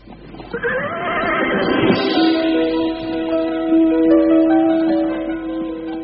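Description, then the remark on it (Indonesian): A jet-black horse neighs loudly and at length as its rider mounts it, its whinny rising then settling into a long, wavering, harmonic cry that carries for several seconds, clear with no voices. “Sudiro Yudo segera naik ke atas punggung kuda berwarna hitam legam.”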